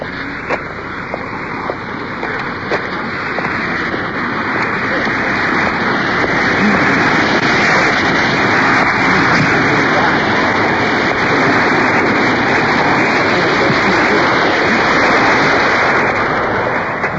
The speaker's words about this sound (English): So we're crossing over on the left. There's a waterfall. Probably can hear the water pouring over the top.